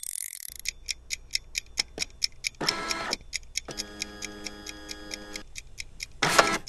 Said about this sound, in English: Let the game begin with just 10 minutes on the clock. I mean, on my kitchen timer.